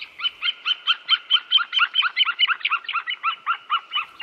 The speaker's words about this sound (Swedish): Nu är vi inne i en djup skog och från en trädkrona hör vi en duvhök. Det är inte olikt havsörnens kacklande läte som vi hörde i början och som kommer här igen.